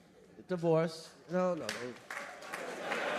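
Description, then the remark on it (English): An audience whoops a couple of times, then clapping breaks out and builds into a steady, moderately loud wash of applause that carries through to the end. “Don't clap for that shit unless you're a lawyer.”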